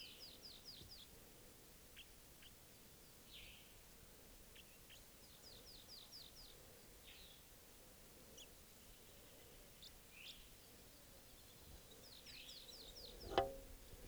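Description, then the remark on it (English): Wild birds give quick bursts of sharp, high chattering fighting calls, several rapid runs of notes with scattered single chips between, then a sudden loud thump near the end, near decoys set up with a net. “Fighting calls there by 387.”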